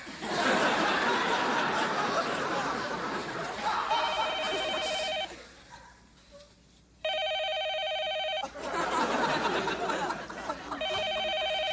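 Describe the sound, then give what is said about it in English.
A telephone at the Newton Testing Center rings in repeated electronic bursts, loud, with short pauses between rings. Bursts of audience laughter and noisy chatter rise and fall around the ringing. “It's the phone.”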